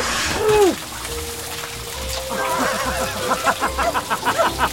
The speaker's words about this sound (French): C'est la meilleure douche que j'ai jamais prise.